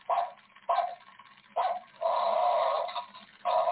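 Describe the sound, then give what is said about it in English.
A tinny electronic Halloween skeleton dog toy with a light-up face barks in short repeated bursts, with one longer drawn-out yowl in the middle. The sound is thin and lo-fi, like a small speaker, with no talking. “We've got our cool little Halloween toy. It's a skeleton dog.”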